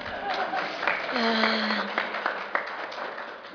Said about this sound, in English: So a round of applause for the penile dimension.